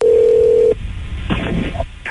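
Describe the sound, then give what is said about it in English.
A steady phone tone holds for under a second, followed by soft line noise and a short electronic keypad beep at the end, like a number being dialed for a prank call to a yoga instructor. “It's our prank call”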